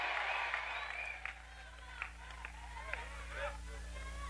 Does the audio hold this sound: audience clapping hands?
yes